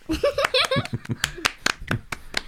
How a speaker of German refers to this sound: Super. Ich danke euch. Das war ein sehr schöner Applaus.